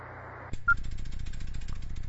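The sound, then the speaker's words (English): A hiss of white-noise static from a radio cuts off with a click and a short beep, then the radio's automatic antenna tuner chatters through a rapid, steady run of small motor-like mechanical clicks as it tunes the antenna, with no talking. “The next one over from that is your automatic tuner, and you just heard me tune the antenna.”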